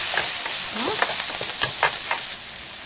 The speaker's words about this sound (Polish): Jak już trochę się podsmażą nasze grzyby, mamy śmietanę.